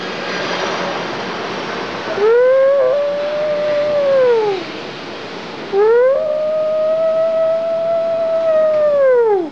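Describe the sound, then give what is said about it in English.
Wolves howl in two long, drawn-out calls, each rising, holding a steady mournful pitch for a few seconds, then sliding down, clear over a steady rushing background hiss. “The wolves are screaming!”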